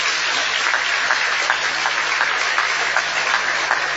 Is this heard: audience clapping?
yes